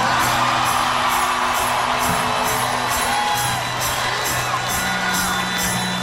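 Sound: audience cheering and whooping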